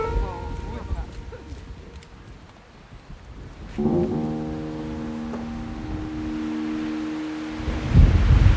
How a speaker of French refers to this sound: Il y a du vent, hein? Il y a du vent, ouais.